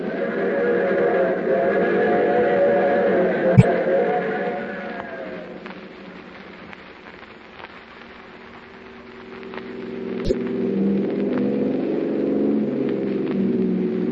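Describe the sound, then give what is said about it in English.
A car engine roars along at speed in a steady droning hum as it chases another car, easing off and quieting midway before swelling again, with two sharp, sudden cracks punctuating it. No one speaks. “That's her car up ahead.”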